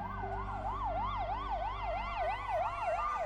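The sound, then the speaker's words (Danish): An ambulance siren wails continuously in a fast, regular up-and-down sweep, loud, with a low rumble of traffic or engine underneath and no one speaking; the ambulance drives with blue lights to Nykøbing Falster Hospital carrying a car crash victim. “bliver kørt med blå blink til Nykøbing Falster Hospital”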